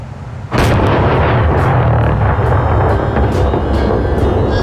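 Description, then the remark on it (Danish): A sudden, powerful blast of explosives set off in a hole erupts after a quiet moment, strong enough to rattle windows up to the 14th floor, followed by a sustained heavy rumble with a series of sharp cracks and pops continuing throughout. “Sprængstoffet eksploderede med sådan en kraft, at vinduerne klirrede helt op på 14. etage.”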